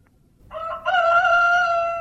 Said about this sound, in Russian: Петухи запели, запели рано-рано, разбудили важного, важного барана